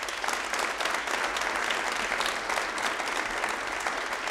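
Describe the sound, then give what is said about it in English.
Steady applause from the audience of a Red Barn Radio show at Arts Place in downtown Lexington, Kentucky, a dense wash of many hands clapping at an even, sustained level for several seconds without any voices standing out. “Thank you guys so much for being such an amazing crowd.”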